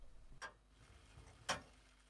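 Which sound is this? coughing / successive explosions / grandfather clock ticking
grandfather clock ticking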